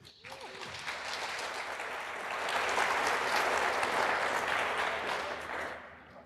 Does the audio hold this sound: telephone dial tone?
no